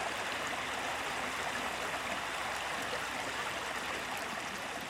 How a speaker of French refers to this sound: Alors, c'est un cours d'eau d'abord qui est charmant, qui est romantique, qui chante. À différents endroits, elle va vous parler différemment. Le bruissement de l'eau ne va pas être le même, le débit ne va pas être le même.